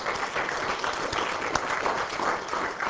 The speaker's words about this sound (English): And again, let's give Maggie a round of applause for her efforts.